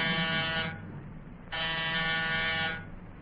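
An apartment door buzzer is pushed twice, each a loud, harsh, steady drone lasting about a second, separated by a short pause, with a low background hum underneath.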